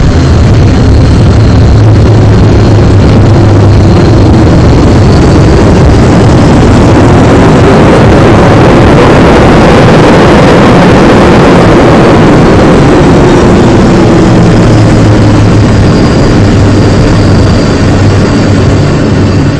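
A loud, steady engine roar with a deep rumbling low end and a broad hiss, swelling slightly in the middle, from a spaceship landing. No one speaks.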